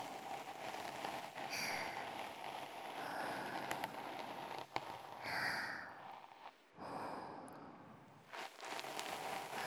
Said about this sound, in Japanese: 雨の音聞いて、耳かきされて、気持ちいい、気持ちいい。